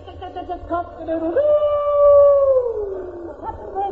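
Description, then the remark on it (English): A man's voice imitates Roman the sheepdog howling: a few short whining yelps, then one long, loud, sustained howl that slides slowly downward in pitch, ending with a brief rising whine. “But I shan't be the worst, my dear wife, Roman the sheep dog is a good example, sir. Here he is now.”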